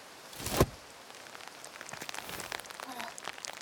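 nature, rain falling

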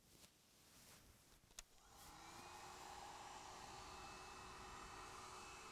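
household object, hair dryer blowing

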